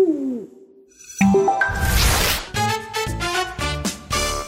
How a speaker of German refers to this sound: Uhu.